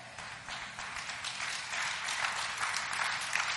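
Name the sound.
audience clapping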